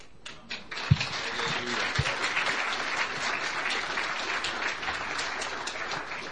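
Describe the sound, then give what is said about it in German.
An audience applauds for a man celebrating his birthday, a dense wash of many hands clapping at an even level throughout, with a couple of brief low thumps near the start and no voices standing out. “So, das war für ihn.”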